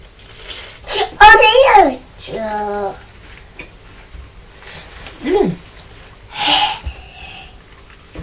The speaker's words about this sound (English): Oh dear, have you got too cold? You keep sneezing. No, not you, Choo-choo's.